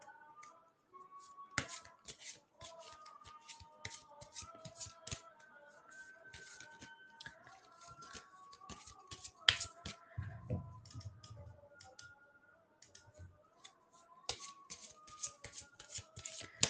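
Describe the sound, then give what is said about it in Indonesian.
Cards being flipped and shuffled through by hand, a steady run of crisp, close clicks and flicks, with a faint steady tone in the background and a brief low rumble partway through. “Kita carikan kartu untuk NG.”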